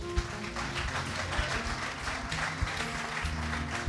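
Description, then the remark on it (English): An audience applauds the audio engineer steadily, a dense, continuous patter of many hands clapping at an even loudness, with a few sharper claps standing out. “Hey, how about an extra round of applause for Jason?”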